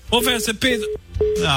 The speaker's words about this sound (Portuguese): Jogou, bateu o telefone na tua cara.